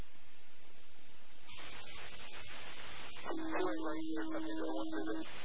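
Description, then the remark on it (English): A garbled, static-heavy aviation radio transmission from someone with a very bad radio trying to call in, band-limited hiss with broken voice fragments, ending in a steady squelch tone that cuts out abruptly. “Hey, someone's trying to call me up and got a very bad radio.”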